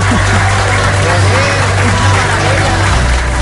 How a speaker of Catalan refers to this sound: Home, uns aplaudiments per l'Albert Bassa, que torna aquesta franja.